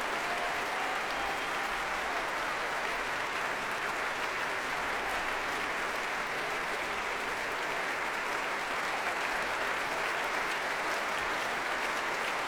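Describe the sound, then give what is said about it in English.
Steady, sustained applause from a large concert audience as Midori returns yet again to the stage with conductor Andris Nilsons behind her, applauding; a dense wash of clapping that holds at an even level throughout without pause or voices. “And she returns yet again with Andris Nilsons behind her, applauding.”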